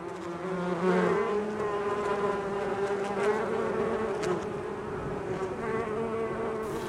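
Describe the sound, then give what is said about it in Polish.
A steady honeybee buzz drones on for several seconds, its pitch wavering slightly as the insect moves, with no voices present. “Pszczoły to w ogóle są tacy strażacy wśród owadów.”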